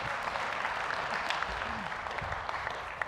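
A steady round of applause from a crowd, dense overlapping claps forming a continuous crackling wash that holds at an even loudness throughout.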